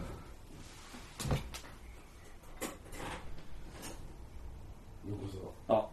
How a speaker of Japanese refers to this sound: あ、ドア開けて、つって 来た。ドア開けて。 開けてみましょうか。 開けてみましょうか。